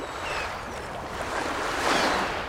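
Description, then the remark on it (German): Ocean waves wash steadily onto the shore in a continuous, broad rushing roar that swells slightly louder toward the end, with no voices present. “Meeresrauschen, Möwen, der Sand rieselt durch die Zehen, eine frische Brise weht, ein freier Blick auf Segelschiffe.”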